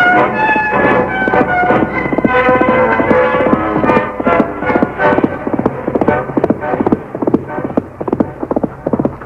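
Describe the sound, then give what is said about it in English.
The hooves of the Lone Ranger's horse Silver clip-clop in a steady, brisk rhythm, loud throughout, with sustained tonal sounds layered underneath during the first half. “Called his horse Silver.”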